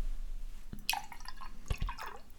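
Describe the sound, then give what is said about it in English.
Regular cow's milk pours into a glass with a strong licorice drink, in short gurgling splashes, with a few soft low thuds and dripping sounds. Moderately quiet, and nobody speaks. “Let's add more milk.”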